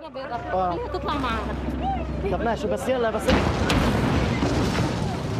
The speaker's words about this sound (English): An explosion sends everybody running.